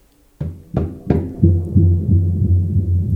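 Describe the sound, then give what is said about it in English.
Three sharp drum hits in quick succession on a drum with long springs connected to its membrane, then a trail of low, booming echoes from acoustic spring delay and reverb that repeat in a steady pulsing rhythm and smear into a ringing, reverberant wash. “This is spring delay and reverb and all delay effects on it.”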